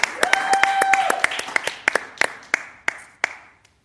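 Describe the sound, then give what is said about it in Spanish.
Applause of sharp, crisp hand claps, quick and dense at first, then thinning into a few slower, spaced claps that trail off. A brief steady whistle-like tone sounds early on. “fuerte aplauso.”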